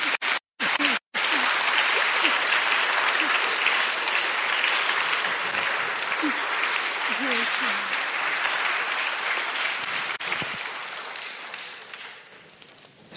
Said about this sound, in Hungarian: Tapsoljuk már meg.